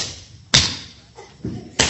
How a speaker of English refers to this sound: Now, sometimes some of us have a real hard time with understanding where we clap. And when we start clapping, it's like this.